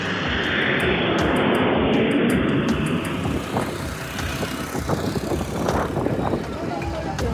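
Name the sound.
airplane flying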